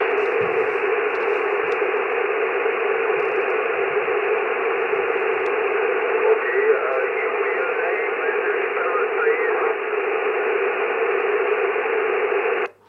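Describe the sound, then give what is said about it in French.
Steady, band-limited radio static hisses for about twelve seconds during an amateur radio contact with a station in Gran Canaria, with faint warbling traces of a weak, fading signal buried in the noise before it cuts off abruptly. “Can you please, Echo Alpha 8, Bravo Uniform Victor, there is a bit of QS Bravo, can you please give me a signal report and your name?”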